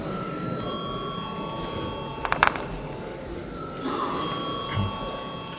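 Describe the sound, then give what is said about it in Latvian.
A steady electric assembly bell rings continuously at moderate volume before a vote, over murmuring, with a few brief knocks and faint background voices. “Paldies, lūdzu zvanu!”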